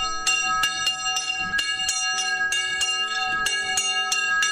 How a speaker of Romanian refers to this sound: Doar clopotul bisericii de lemn din Măgura mai tulbură liniștea locului.